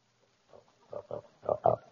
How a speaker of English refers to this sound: Have you fed the pig yet? No, I was going to.